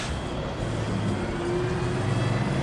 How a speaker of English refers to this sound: Later, a marathon car rental shuttle bus pulls into the parking lot near the airport.